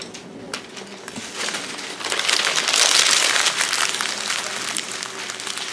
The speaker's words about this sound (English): I want you to take your response, make sure your name is on the top of it, and then crumble it up into a paper ball that's going to sit on your desk.